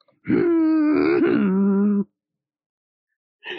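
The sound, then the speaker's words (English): A voice imitating a car driving past: one sustained, buzzy vocal hum lasting almost two seconds that wavers and then drops in pitch. Silence follows, then a brief sound at the end. “You also sound like making that noise you do when you're a kid and you're doing the cars going past.”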